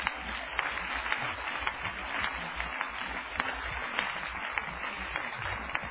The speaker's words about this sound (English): Clap your hands again to the Lord.